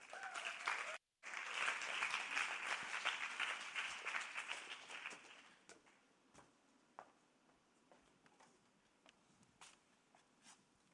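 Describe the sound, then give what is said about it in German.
An audience applauds with dense, steady clapping for about five seconds, briefly cut off near the start, then it thins out into a few scattered claps before fading, welcoming a guest onto the stage. “Komm doch du gerade auf die Bühne mit einem herzlichen Applaus von euch.”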